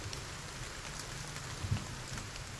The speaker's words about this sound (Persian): باد ابر را قلقلک داد، باران چک چک بارید.